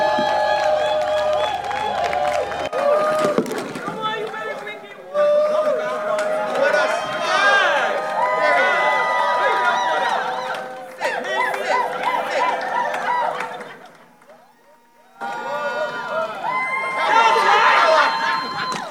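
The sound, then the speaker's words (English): A crowd cheers and shouts loudly in sustained bursts while the speaker drinks water from Beyond, a dense wash of overlapping voices and whoops that drops briefly near the end before surging again. “Can you guys make some noise once I drink this water from Beyond? Don't stop until I'm done drinking.”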